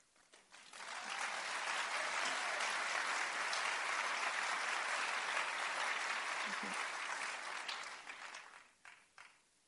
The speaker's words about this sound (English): I appreciate your applause, but you know, in my head, I'm still thinking, what is it that they're really thinking?